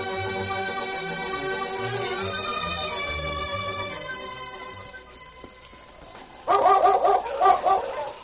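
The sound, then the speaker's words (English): A dog, Yukon King, Sergeant Preston's husky, barks loudly and excitedly in a rapid burst near the end, following several seconds of sustained, swelling musical tones that fade out. “Back to the days of the gold rush, with Sergeant Preston and his wonder dog, Yukon King, as they beat the challenge of the Yukon.”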